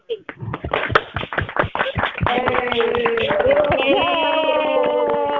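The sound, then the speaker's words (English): A group on a phone call, with phones taken off mute, claps in a quick burst of sharp slaps for newly ordained ministerial counselors, then several voices cheer and whoop over continued clapping, all sounding thin and narrow like it's coming through a phone line. “I would like everyone to please take your phones off the mute, and we're going to give them a big applause.”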